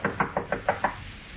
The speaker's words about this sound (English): Rap on the door, Olson.